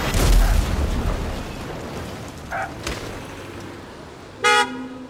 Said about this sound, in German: Sein Wagen gerät in den Gegenverkehr und wird von einem heranrasenden Pickup gegen eine Ampel gedrückt.